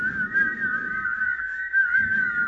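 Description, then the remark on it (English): People whistle a sustained, wavering tune together for a couple of seconds, steady and fairly loud, with some low background rumble beneath. “Can we whistle for return, like the health and health?”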